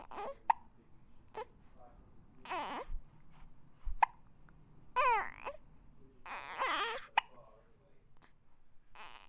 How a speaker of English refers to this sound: Are you getting the hiccups? Yes, you are. Oh, hiccups are evil. I'm sorry. Not nice.